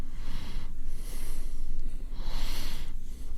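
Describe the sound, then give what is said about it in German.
A man snorts and puffs out breath in two long, forceful exhalations, with a short pause between them and no talking. “Da schnauft er nur.”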